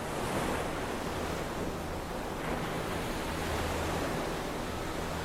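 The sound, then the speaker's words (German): A soft wave washes onto a sandy shore, a steady broad hiss of surf rising and settling over several seconds with a faint breeze, no voices present. “Wie aufs Stichwort rollte in diesem Moment eine sanfte Welle an den Sandstrand.”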